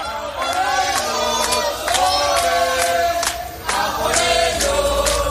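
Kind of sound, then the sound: crowd, crowd shouting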